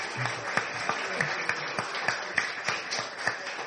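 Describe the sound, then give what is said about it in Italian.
Audience applause for the Mayor of Matera, Raffaello De Ruggeri, a guest at the Università d'Estate of Soveria Mannelli. Many hands clap in a dense, steady wash, with a few sharper individual claps standing out at a fairly regular rhythm throughout, and no voices over it. “Allora, e un uguale applauso con uguale affetto al Sindaco di Matera, nostro ospite, Raffaello De Ruggeri.”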